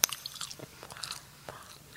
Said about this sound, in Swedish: Och vad heter det när man äter och så lyssnar folk på det? Är det ASMR eller ja, MSAR?